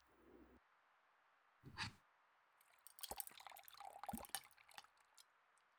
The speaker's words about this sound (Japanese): 石鹸水を泡立てて、ひげ剃りクリームにするの。散髪屋さんとかでするやつなんだけど、お父さんが好きらしくて、道具揃ってるんだ。